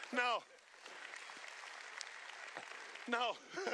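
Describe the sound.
A crowd applauds in a steady, dense wash of clapping lasting a few seconds, with voices calling out briefly at the start and again as the applause fades.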